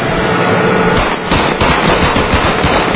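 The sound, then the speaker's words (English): Rapid, sustained gunfire crackles loudly and continuously, a dense burst of automatic shots with sharp, hammering repetitions filling the whole stretch without pause, as US Army soldiers shoot at a car taken from looters. “They shoot the car.”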